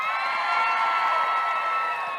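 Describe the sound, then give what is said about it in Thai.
A large audience screams and cheers in a dense, sustained roar of high-pitched voices, loud and continuous for a couple of seconds with no individual speech standing out, after the speaker asks them to scream again louder. “กรี๊ดไม่ดังเลยขออีกทีได้ไหมครับ”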